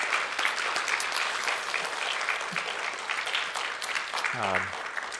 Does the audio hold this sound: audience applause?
yes